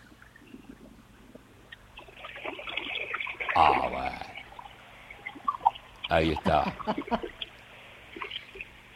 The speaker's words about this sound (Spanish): A ver el ruido, el sonido del agua. Mira. Si no me suicido acá, escucha esto.